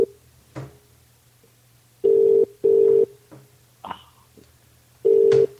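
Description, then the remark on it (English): A telephone call rings a public phone box outside Wetherspoon in Burgess Hill, with a steady tone in a double-burst pattern, two short rings, a pause, then another, with faint clicks and a low hum underneath. “For those of you listening, this is a public phone box.”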